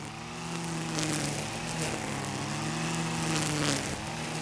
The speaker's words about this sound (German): Als ich wieder zum Auto gehe, sehe ich einen Mitarbeiter, wie er den Rasen am Straßenrand trimmt. In der Hand hat er ein Gerät von Stihl.